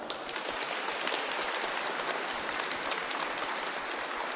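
Warm, sustained applause from an audience at a Radio Maryja gathering on Children's Day, people greeting one another: a dense crackle of many hands clapping at a steady level throughout with no talking over it.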